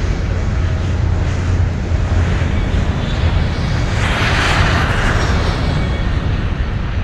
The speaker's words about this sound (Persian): و لحظاتی بعد هواپیمای قولپیکر بوئینگ 747 هما با صدای گوشخراشی از روی باند خیز برمی‌دارد و از زمین کنده می‌شود.